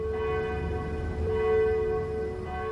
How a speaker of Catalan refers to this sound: L'artiller va pulsar altre cop el botó i un altre concert de campanes es va difondre de trinxera en trinxera. semblava com si toquessin juntes totes les campanes del nostre país.